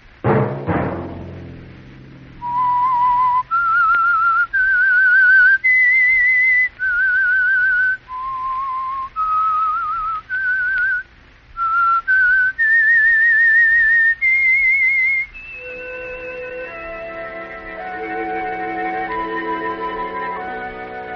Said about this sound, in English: Let that whistle be your signal for the Signal Oil program, The Whistler.